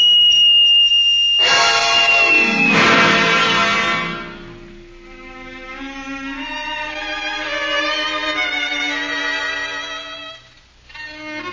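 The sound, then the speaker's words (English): A thin high whistle tone gives way to a loud, shrill, harsh blast, blown hard and held for around ten seconds, wavering slightly before briefly breaking off and starting again. “I put it to my lips and blew it at the departing Miss Rice, defiantly and with all my might.”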